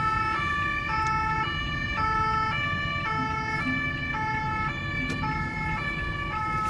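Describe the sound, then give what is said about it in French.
A police siren blares in a steady two-tone pattern, alternating high and low notes in quick succession, loud over a low rumble of road traffic, with no one speaking; police vehicles at Porte des Lilas in Paris move to take the four traffic lanes and form a rolling roadblock during road closure operations. “Et derrière nous, on a les véhicules de police qui vont venir prendre les quatre voies de circulation et réaliser un bouchon mobile.”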